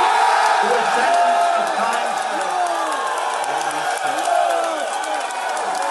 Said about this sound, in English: You see the folks jumping up, screaming, yeah, and there's the free Ross signs all over the room.